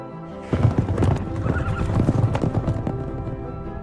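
Horses' hooves clip-clop in a steady, busy rhythm, with whinnying mixed in over a full, noisy background that starts about half a second in, as a rider rides alongside a group of horses.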